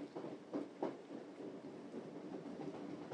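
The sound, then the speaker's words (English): A mostly empty train carriage on a stopping service from Waterloo round to Teddington clatters along the rails with a steady rumbling roar from outside, broken by a few sharp clunks near the start, and no voices present. “There's plenty of clunkety noise coming from outside.”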